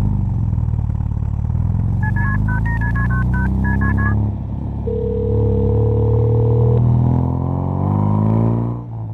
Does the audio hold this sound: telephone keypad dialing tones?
yes